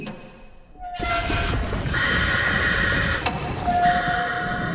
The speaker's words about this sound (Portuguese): Olha, não olha agora não, mas tem um peixe grande e com olhos luminosos vindo na nossa direção. Ah, não, não, aquilo não é um peixe, é o submarino e do professor Zezé.